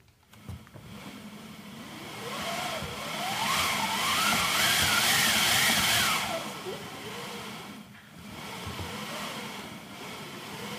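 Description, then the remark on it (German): A theatre wind machine, demonstrated as a historic stage sound effect for a big storm, cranked into a howling whoosh that swells to a loud, whistling peak with rising and falling pitch, eases off, then picks up again. “Das ist eine Windmaschine.”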